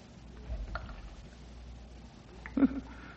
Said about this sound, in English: Hey, what's that dripping I hear? Could be an underground spring, I reckon. Or moisture on the roof of this.